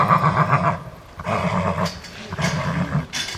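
An 8-year-old Arabian gelding neighs in several loud whinnying bursts with short pauses between them, harmonic and shaky, on a small fenced-off part of a paddock, heard alone without any talking.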